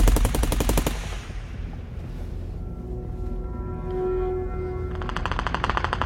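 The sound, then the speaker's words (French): Two bursts of rapid automatic gunfire from gang members firing at RAID police officers during a raid on a house, a loud opening volley and another at the end, separated by a lingering rumble with a steady tonal hum. No one speaks. “En plus des rafales d'armes automatiques, les membres du gang se défendent en lançant plusieurs vieilles grenades tchèques au phosphore.”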